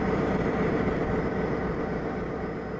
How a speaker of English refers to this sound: One weekday evening, they drive to a site across the road from an idling freight train. See the train right there? See the smoke coming out of the chute? They'll do that off and on.